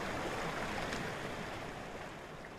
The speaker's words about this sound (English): this full flow of Yosemite Creek has caused problems with damage to buildings on the side of the creek